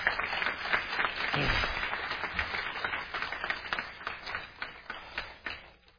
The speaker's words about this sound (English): Let's have a big round of applause for them.